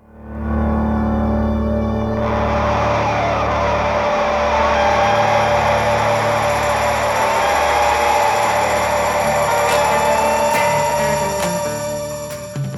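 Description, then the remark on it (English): A guitar in the right channel, heavy with echo, begins to oscillate as its echo feeds back on itself at the start of a song, building into a loud, sustained electric drone with whining, oscillating tones that waver and climb over a dense, buzzing low end, with no voices. “The guitar in the right channel begins to oscillate. That's when the echo feeds back on itself.”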